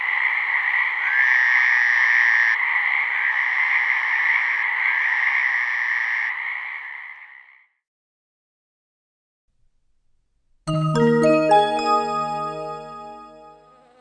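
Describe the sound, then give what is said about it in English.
Frogs croak in a loud, continuous chorus for several seconds with a few pulsing bursts, then fall silent; after a pause, a short musical jingle begins. “Frogs are small, but very loud. You can hear some frogs 1.5 kilometers away.”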